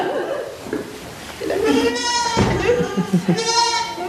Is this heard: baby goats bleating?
yes